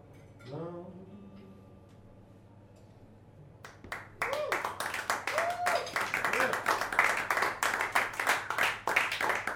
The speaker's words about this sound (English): Clapping all around. That's the main sound.